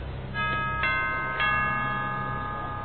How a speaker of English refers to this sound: Ring the doorbell.